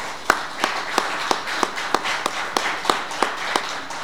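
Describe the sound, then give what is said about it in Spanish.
An audience applauds steadily for the women in the room, a dense wash of clapping with sharper, evenly spaced claps standing out roughly three times per second throughout, with no talking. “Creo que un aplauso.”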